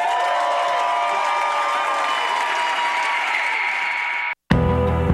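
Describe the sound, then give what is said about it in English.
A crowd applauds and cheers in a dense, steady roar of clapping and voices for about four seconds as a Brooklyn MC is introduced, then cuts off abruptly before a loud new sound bursts in. “Make some noise for Brooklyn's finest,”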